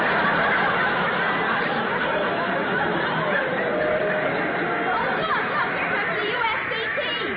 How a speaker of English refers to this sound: Yeah, listen to that crowd.